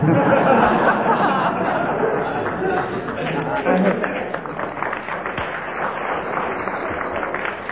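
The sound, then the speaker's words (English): A crowd claps steadily for several seconds, a dense wash of applause mixed with murmuring voices and a bit of laughter, holding fairly even before easing slightly toward the end. “That applause sounded more like sympathy than appreciation.”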